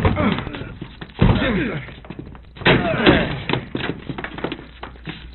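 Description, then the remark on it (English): Two heavy, booming thuds strike a door about a second and a half apart, followed by a scatter of smaller knocks and rattles as it gives way, with faint strained voices underneath. “Let's get this door open. Break it down.”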